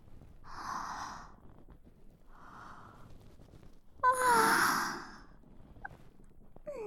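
human body sound, yawn

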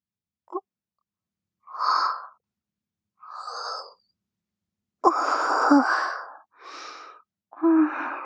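human body sound, yawn

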